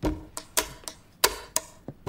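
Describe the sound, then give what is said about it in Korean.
Sharp plastic clicks repeat in a loose rhythmic pattern, about eight snaps in two seconds, crisp like a ballpoint pen being clicked as a beat to rap to, with no voices. “볼펜에 너 랩을 맞추라고?”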